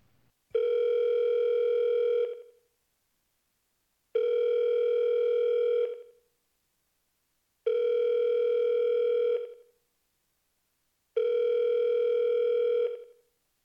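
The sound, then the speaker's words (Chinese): A phone ringback tone repeats four times in an even rhythm, each steady buzzing ring lasting about two seconds before a short pause. Nobody picks up, and no one speaks. “您拨打的电话暂时无人接听。请稍后再拨。”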